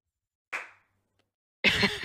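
A single sharp hand clap rings out and fades, followed after a short silence by a louder, denser burst of clapping that continues to the end.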